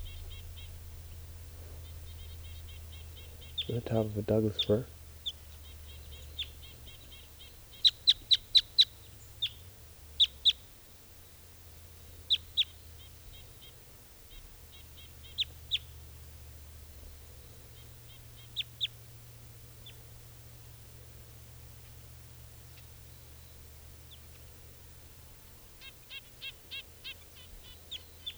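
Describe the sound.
A wild bird calls from a tree about 15 feet up in short, high chirps, some in quick clusters of three or four, with pauses between, over a steady low rumble; a person speaks briefly.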